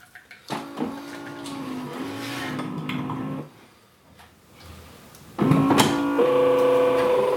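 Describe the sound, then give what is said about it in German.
A coffee machine runs with a loud mechanical hum and whir, pausing briefly into a quieter rumble before a second, slightly higher-pitched burst of pumping starts up. “Naja, nun könnte der Kaffee aber langsam mal fertig werden.”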